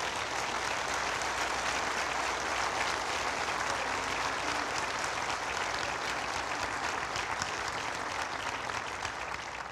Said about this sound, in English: Clap. That's worth it.